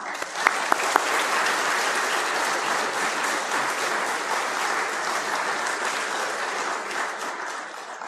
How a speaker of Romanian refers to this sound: Prin el ați biruit această presiune culturală și religioasă și vreau să vă aplaudăm cu toată inima.